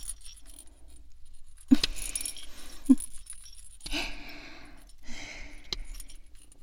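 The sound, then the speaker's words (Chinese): A small bell on a steel plug tail jingles in several brief, bright metallic bursts with short pauses between them, shaken with each light pat. The ringing is moderately loud, with sharp accents among the jingles and no voices. “你看老公每拍一下，你屁股上塞着的钢塞尾巴铃铛就会摇得叮叮作响呢。”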